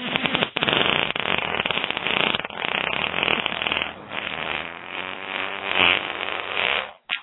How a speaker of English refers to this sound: You're like Dr. Demento over here with these stupid fart noises.